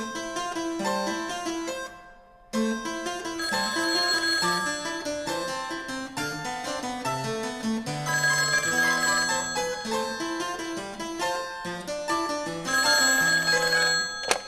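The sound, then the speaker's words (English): A telephone rings loudly and almost continuously, its bright bell tones trilling in a dense, musical pattern, with one brief pause near the start. No one speaks. “you're not the first classical musician to make prank phone calls.”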